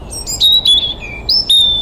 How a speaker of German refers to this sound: Hier oben zwitschert ein Rotkehlchen.